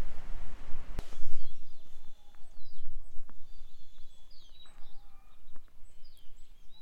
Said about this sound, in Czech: Sedíme na návsi v Sedlecku, jak slyšíte, je tu ruch ptáků, darebáků a tak.